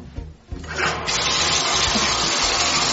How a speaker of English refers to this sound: I started your bath, but I didn't turn off the water. So in a couple of minutes, you're going to have to turn off the water and take your bath, okay?